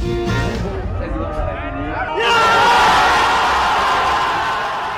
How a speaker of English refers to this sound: That is shouts of victory from Paris, France last night with the announcement of the wide victory of Emmanuel Macron, the new leader of France.